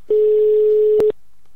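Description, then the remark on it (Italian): A single steady ringback tone on an outgoing phone call placed during the radio show Baseball e Musica, a clear hum-like beep lasting about a second before cutting to silence. No one speaks. “E vai, squilla.”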